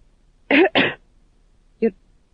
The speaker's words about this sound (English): The tax gatherer coughed again.